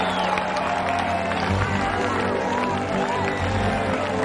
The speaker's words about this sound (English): The crowd around them applauds.